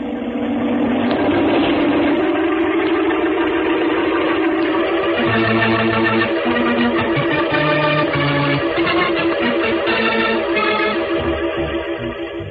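An airplane engine drones steadily overhead, a continuous low, throbbing hum with shifting tonal layers that holds at an even loudness for about twelve seconds, with no voices.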